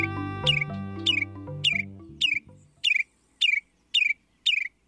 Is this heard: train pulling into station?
no